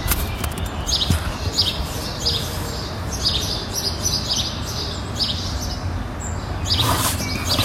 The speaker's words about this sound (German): Man hört nur Vogelgezwitscher.